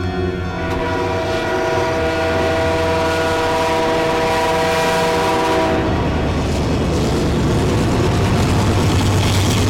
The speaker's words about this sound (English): The train was coming closer. I could hear its bell, its cry, its whistling cry.